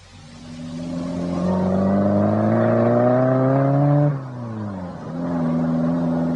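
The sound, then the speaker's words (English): A car engine runs and revs up steadily as the car, parked outside, pulls away to drive someone home, the pitch climbing, briefly dropping at a gear change, then rising again. Loud, with no voices. “My car's outside. Let me drive you home.”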